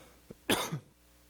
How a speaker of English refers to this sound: I tried to turn it off before I cough. I apologize.